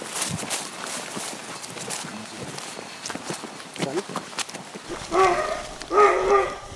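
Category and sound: animal, hunting dogs barking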